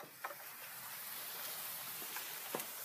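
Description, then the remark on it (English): Steady rain falls outdoors on a muddy lawn on a chilly day as a soft, even hiss, broken by a few sharper drips and splats. No one is speaking. “We are outside. And it is really raining.”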